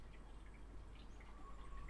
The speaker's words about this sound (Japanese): ほら聞いて、この鳥の鳴き声と